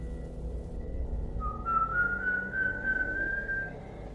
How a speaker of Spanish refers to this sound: Y estaba por volver a subirme cuando escuché un chiflido. Fue bajito entre las ramas. Me quedé quieto esperando.